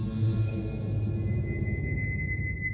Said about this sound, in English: And we don't know how that sentence ends because this huge burst of static drowns out whatever he was going to say.